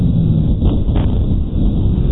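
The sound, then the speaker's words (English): Slowed-down audio of two explosions at the moment a plane impacts, each followed by two echoes: a deep, continuous low rumble with two slightly sharper swells early on, smearing into a heavy drawn-out roar with no voices. “One possibility suggested by our analysis is that there are in fact 2 explosions at the time of the impact of the plane, and each of these has 2 echoes.”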